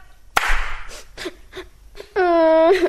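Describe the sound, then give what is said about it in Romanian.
A child cries: a sharp catch of breath and a few short, breathy sobbing whimpers, then one sustained, high wailing cry that ends abruptly. “Șt, să nu te prind că plângi!”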